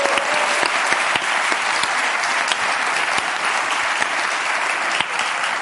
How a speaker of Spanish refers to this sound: El premio para la señorita que ha dicho 49. Bravo, un aplauso para esta muchacha.